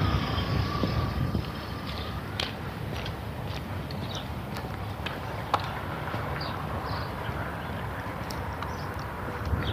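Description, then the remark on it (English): Steady low rumble of morning road traffic rolls by without letup, a continuous wash of passing cars with occasional sharp clicks and ticks over the top, and no one talking. “I seem to find myself dealing with a lot of cars this morning.”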